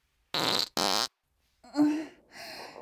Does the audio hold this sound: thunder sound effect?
no